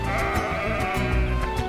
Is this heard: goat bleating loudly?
yes